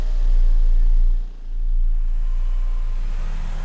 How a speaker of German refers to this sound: Auto startet, hinterhergefahren zur Wache.